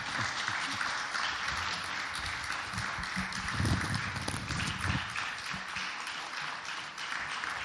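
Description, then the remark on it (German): Steady audience applause fills the whole stretch, a dense wash of many hands clapping at a fairly even, moderate loudness with no voices over it, as a bouquet of flowers is fetched. “Ich hole den Blumenstrauß und bitte um Applaus.”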